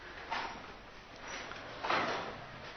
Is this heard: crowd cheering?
no